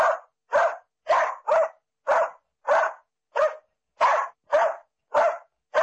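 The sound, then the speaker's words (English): Dogs barking at the Oliver Dog Salon, a dog grooming salon where four trimmed dogs walk around; about a dozen loud, sharp barks in a steady, evenly spaced rhythm with short silences between them and no voices. “Martina's four dogs are lazily walking around and are happily showing off their exceptional haircuts.”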